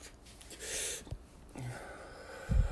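A soft, breathy draw of air from a vape cartridge on a battery, followed by a long, hissing exhale, with a faint low bump near the end and no talking.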